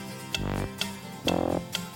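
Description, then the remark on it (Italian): A steady clock-like ticking, four evenly spaced crisp ticks about half a second apart, with sustained musical tones swelling between them. Moderately loud, with no voices. “lo sentite? Che strano, ticchettio.”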